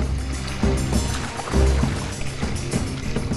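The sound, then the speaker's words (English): Several people paddle frantically with their hands on both sides of a small boat in uneven, hurried strokes, with splashes and sloshing over a steady rush of wind and water noise, as the boat makes slow progress toward the shore. “As the others paddle frantically”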